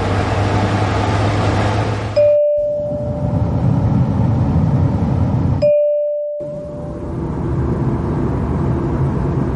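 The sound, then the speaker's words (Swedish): Three different steady, whooshing fan noises play one after another, split by brief silences, with a soft electronic tone marking each change. The first carries a low hum; the third is an airplane fan sound. No one speaks. “Nu ska du få betygsätta 3 fläktljud. Vi ska lyssna på de här.”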